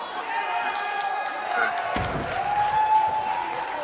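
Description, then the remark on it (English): A wrestling crowd cheers in a steady, dense roar, broken midway by a single heavy thud like a body slamming onto the mat, with the noise swelling slightly afterward. “Crowd seems to love it as well.”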